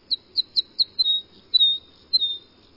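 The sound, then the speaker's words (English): A series of sharp, high calls of crossbills, North American finches: several quick clipped chips followed by a few longer buzzy trills, clear against a faint low background rumble. “North America's two crossbill species, white-winged and red, are vagabonds, wandering in flocks until they find a suitable cone crop, where they might then stop to breed in small groups almost any time of year.”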